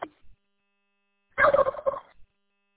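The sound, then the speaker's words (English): A turkey gobble sound effect plays once on a radio repeater when a transmission ends and the operator unkeys: a brief rapid warbling burst of pitched, throaty notes lasting under a second, following a short click, with silence around it. “Yeah, when you untee and I untee it, you know, you hear the turkey gobbler.”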